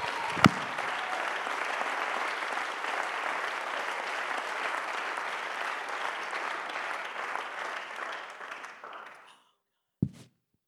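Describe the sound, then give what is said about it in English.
A large crowd breaks into sustained, dense hand clapping that holds steady for about nine seconds before fading out, followed by a brief sharp knock after a moment of silence. “If you believe that, you ought to clap your hands.”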